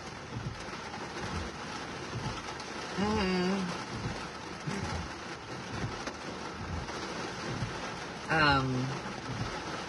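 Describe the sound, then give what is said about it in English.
Heavy rain pours steadily, a dense, unbroken hiss filling the whole scene, broken twice by short, warbling bird-like calls rising above the downpour. “It's raining. You can't hear how loud this is”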